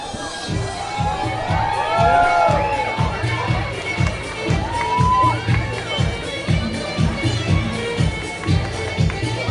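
An audience shouts and cheers loudly at an Arab dance group performance, with high excited whoops rising over a dense roar, while a steady thumping beat pulses underneath throughout.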